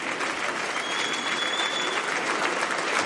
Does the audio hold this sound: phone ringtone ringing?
no